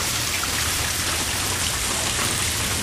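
Steady heavy rain hitting a cement yard and the ground, a dense continuous hiss of countless drops with no pauses and no voices.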